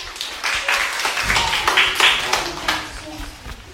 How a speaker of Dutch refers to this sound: 6 uur, dat is helemaal goed. Applaus voor Nest Geel.